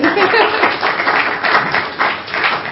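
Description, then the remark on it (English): An audience applauds steadily, many hands clapping together into a dense, continuous patter that holds a fairly even loudness throughout, with no voices standing out above it. “Round of applause.”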